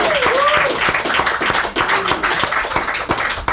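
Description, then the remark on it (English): A crowd bursts into loud, sustained applause, dense overlapping claps with sharper individual hits poking through, plus a few whoops and cheers rising above the steady roar. “Guys, give him a round of applause.”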